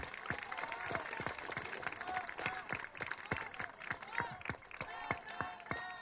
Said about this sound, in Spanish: Entonces yo le pido al pueblo en Ocupétaro un gran aplauso para el presidente Andrés Manuel López Obrador.